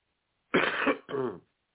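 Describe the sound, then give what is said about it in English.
A fairly loud throat clearing in two quick rasping bursts, the first longer and harsher, the second shorter, with silence on either side and no talking, from a person getting over an illness caught from family. “My brother, my sister, my daughter came with a call from school, and for days coughing, and now I got it.”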